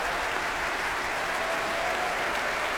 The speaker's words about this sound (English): Back he comes. Applause from the orchestra, the strings tapping their bows as well.